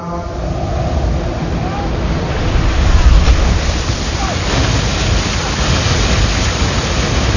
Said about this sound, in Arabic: كان على سفينة تعابثت بها الأمواج وبعثرتها الرياح، وبلغت قلوب ركابها الحناجر، وظنوا أنهم هالكون إلا من أمل